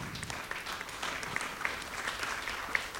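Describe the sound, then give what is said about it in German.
Steady audience applause, many hands clapping at once in a dense, continuous patter with scattered sharper claps standing out, moderately loud and sustained for a few seconds with no talking. “Genau, erstmal ein großer Applaus.”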